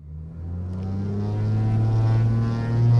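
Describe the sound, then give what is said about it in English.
A Cape Air pilot fires up the engine of a 9-seat propeller plane in Hagerstown, Maryland, before taking off for Baltimore; it drones steadily, its low harmonic hum building slightly in pitch and loudness as it revs, with no voices present. “At least four times a day, a Cape Air pilot fires up a 9-seat propeller plane in Hagerstown, Maryland, and takes off for Baltimore, sometimes with no passengers aboard.”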